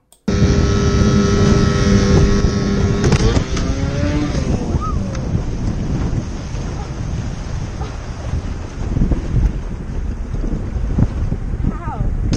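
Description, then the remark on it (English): A motorboat engine drones steadily, its pitch shifting and sliding as it revs, while gusty wind buffets the microphone throughout. Continuous and fairly loud, with a rough, blustery texture over water. “I bet that's her daddy's boat.”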